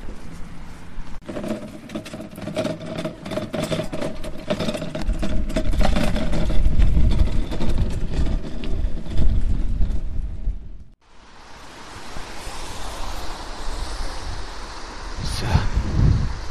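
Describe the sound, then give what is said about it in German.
A bicycle trailer clatters and rattles for about ten seconds in rapid, irregular bursts over a rumbling, windy roar as food rescuers ride bicycles with backpacks to their destination, then cuts abruptly to steady hissing background noise. “Was gerade so gescheppert hat, das war der Anhänger eines Fahrrads.”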